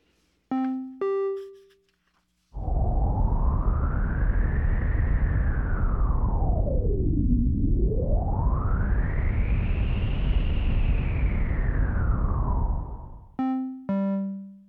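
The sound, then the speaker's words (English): A sonification of daily tidal cycle data mapped onto the cutoff frequency of a white noise filter: steady filtered white noise whooshes for about ten seconds, its brightness sweeping up, dipping low midway, then rising and falling again like gusting wind, framed by short pitched electronic tones. “these values I'm mapping onto a cutoff frequency of a filter of white noise. So you're going to kind of hear whooshing sounds”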